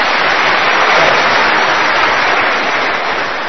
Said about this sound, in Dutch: Ja, applaus.